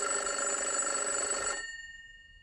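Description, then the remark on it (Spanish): A telephone rings while the caller waits for the call to be picked up, a steady, bright trill for about a second and a half, then cuts off abruptly, leaving a faint ringing tail fading into near silence. No one speaks. “Estamos esperando conexión con don Cayetano, el gafe. A ver si lo logramos. A ver si lo coge.”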